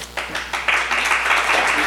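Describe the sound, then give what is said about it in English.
An audience breaks into applause for a speaker who has just been introduced, a dense wash of many hands clapping that swells quickly and then holds steady at a moderate level, with no voices standing out. “You haven't heard the speech yet, so, you know, hold your applause.”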